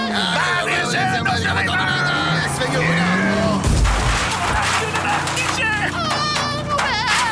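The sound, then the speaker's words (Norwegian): A sudden heavy crunching impact as a Mercedes drives straight into a car door as it is opened, in Paris, bursts out midway through busy street noise, with voices and children heard around it. “Franskmannen i Mercedesen kjørte rett i døren da du åpnet den.”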